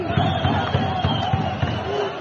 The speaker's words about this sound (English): So here you can hear riot troops firing rubber bullets.